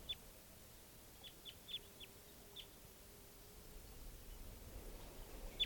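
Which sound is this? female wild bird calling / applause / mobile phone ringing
female wild bird calling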